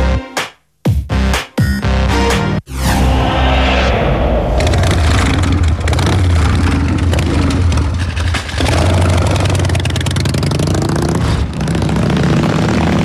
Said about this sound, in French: Voilà, cette fois-ci, la moto est partie.